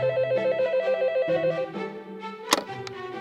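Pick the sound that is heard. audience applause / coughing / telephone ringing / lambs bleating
telephone ringing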